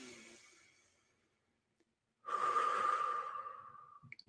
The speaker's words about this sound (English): So you're going to breathe in through your nose. Imagine the breath around your heart. Breathe out through your mouth. And imagine the breath coming out through your solar plexus.